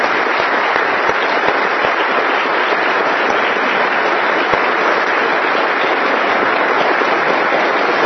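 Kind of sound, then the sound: crowd, audience applauding the choir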